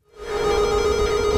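A doorbell rings at a family's home in Saarland during a teacher's home visit, one steady, sustained electronic tone, bright and buzzy with many overtones. It swells in quickly and holds at an even level, with no voices.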